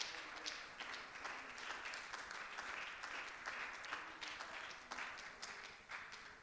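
A church audience claps hands in praise of God after a prayer, a dense, sustained wash of applause from many people for several seconds without talk.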